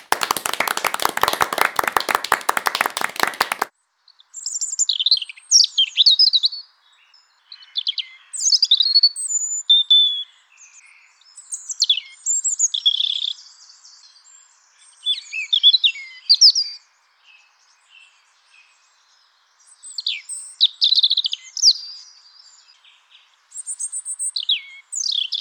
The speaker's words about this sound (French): C'était le chant du rouge-gorge.